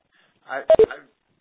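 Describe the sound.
A conference call join beep: two quick, clipped electronic tones in rapid succession, the second slightly lower, rising briefly out of soft murmured talk.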